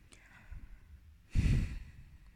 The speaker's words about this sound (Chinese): 还有，你再打呼，我真的打你了。或者你出去睡，别吵我，烦死了。